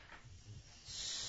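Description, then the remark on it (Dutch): A child imitates a snake, letting out a short, sharp, sustained hiss that starts abruptly and stays loud after a moment of low rustling. “Dat is een slang. En hoe doet de slang?”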